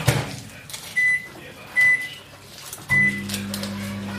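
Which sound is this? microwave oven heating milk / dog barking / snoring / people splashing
microwave oven heating milk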